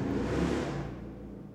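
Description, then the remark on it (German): A motorcycle engine revs loudly, a rough throaty roar that fades as it moves away over about a second and a half, with no voices. “Wo ist dieses Motorradlad angefangen?”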